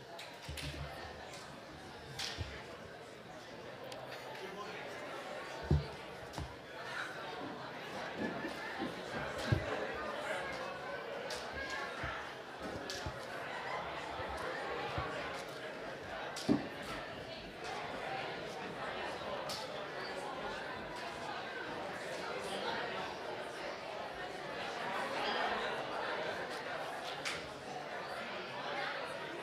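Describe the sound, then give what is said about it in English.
A large crowd mingles and chats as people get up to shake their neighbours' hands and slap family members, many voices overlapping into a steady hubbub, with scattered sharp slaps and claps popping out now and then throughout. “Why don't you get up and slap your family member, but shake your neighbor's hand.”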